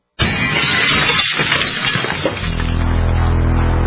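A window suddenly smashes with a loud, bright crash in a burglar's smash-and-grab home break-in, and broken glass keeps scattering and tinkling for about two seconds before a steady, low humming tone takes over.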